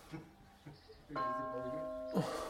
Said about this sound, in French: Enfin, je fais 100 battements à chaque appel. J'ai vu vous suspendiez. Hein. Eh bien, un petit peu. Et c'est-à-dire que je me suspends pour arrêter la cloche à la fin.